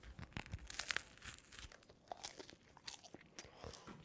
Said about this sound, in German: Warte mal, ich muss jetzt erstmal vom Brötchen abbeißen.